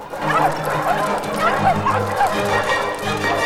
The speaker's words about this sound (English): The other dogs arrive. Tide of dogs pours into the warehouse. The crooks run madly among piles of old junk.